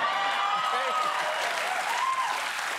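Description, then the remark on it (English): A large audience cheers and applauds steadily, a dense wash of clapping with scattered whoops and shouts, loud and sustained for a few seconds. “Y'all cheering out there, but do you want with attitude coming to your office?”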